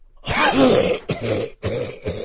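A close, loud bout of raspy, throaty coughing: one long rough hack followed by three shorter coughs in quick succession, with no talking.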